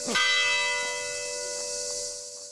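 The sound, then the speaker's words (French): A single church bell stroke rings out clearly, its rich metallic tone lingering and slowly fading over a couple of seconds with no voices present. “Le langage d'une cloche est une sonnerie qui veut signaler quelque chose.”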